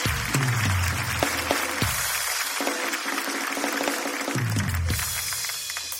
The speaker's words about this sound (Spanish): ¡Un aplauso para Patricia! ¡Para Patricia Portocarrero!